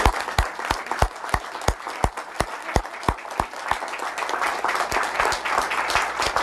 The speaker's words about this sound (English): We'll just take a little break from protocol here, and I think it'd be good for us all to applaud you for your building.